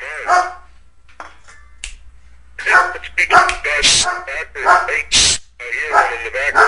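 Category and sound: animal, dog barking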